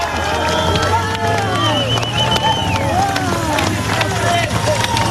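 Bicycle brakes on the racing bikes of women riders in a road race squeal as they slow for a bend, several overlapping whining tones sliding up and down, over steady roadside crowd murmur and a low droning hum.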